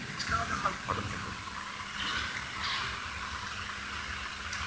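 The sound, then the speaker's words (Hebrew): Water pours into a drinking glass for a lecturer, a steady trickling splash lasting a few seconds over a low background hum. “יש, תודה רבה, כלל גדול, אין מרצה בלי כוס מים, זה לא קיים.”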